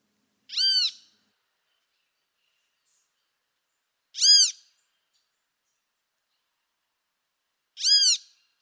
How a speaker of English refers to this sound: This one is from the bird you've been using for research, the great Kiskadee. So now let's listen to what that same song sounds like when the bird is awake.